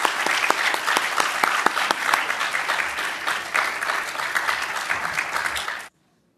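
An audience claps steadily in a dense, sustained wash of applause with sharp individual claps standing out, holding a fairly even loudness for about six seconds before cutting off abruptly.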